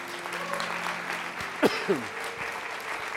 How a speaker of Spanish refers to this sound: Oh my gosh, si eso no provoca un aplauso de parte de ti.